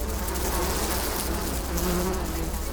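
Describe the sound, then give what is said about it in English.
A steady, dense drone of many bees buzzing together, continuous and fairly loud throughout, with no voices. “Maybe we should just get on with learning about the world's most useful bugs, starting with bees.”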